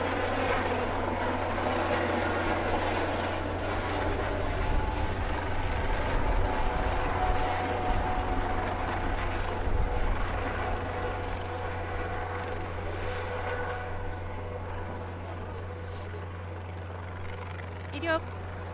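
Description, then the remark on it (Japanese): A red Kyoto City Fire Department Aviation Unit helicopter carrying medical supplies comes down to land on the deck of the escort ship Hyuga, its engine and rotors making a loud, steady, rumbling drone with a constant low hum that fills the whole recording. “医療物資を乗せた京都市消防航空隊のヘリコプターが、護衛艦ヒューガの甲板に着艦するところです。”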